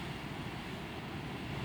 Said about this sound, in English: So come and join me. Sit here by the sea with me.